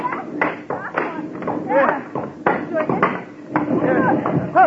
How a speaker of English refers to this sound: Here are some benches we haven't chopped up yet. That's the stuff. Keep chopping.